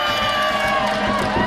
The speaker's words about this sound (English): When I point out to number one, you yell as loud as you can. Let's hear for number one. Yeah.